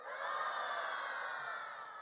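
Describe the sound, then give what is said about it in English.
A group of children, prompted during a story reading, roar together like wild monsters, a loud, sustained mass of shouting voices that holds steady for a couple of seconds before tapering slightly. “they roared their terrible roars. Let's hear your roars.”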